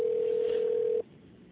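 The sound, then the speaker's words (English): A single steady telephone ringback tone hums loudly for about a second as a phone call connects, then cuts off, leaving faint line hiss behind. “Oh, there it goes now. It's finally clicking in, so we'll see what is going on.”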